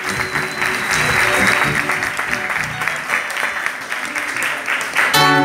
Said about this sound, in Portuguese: Então, antes de eu começar, eu queria que vocês dessem uma salva de palmas para essas duas mulheres que fizeram sua parte.